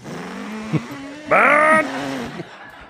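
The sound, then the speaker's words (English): A voice imitates a motorcycle engine with a buzzy drone that suddenly revs louder for a moment with a rising whine, then drops back to a steadier hum. “One of our most ambitious sound effects was to get a motorcycle sort of sound.”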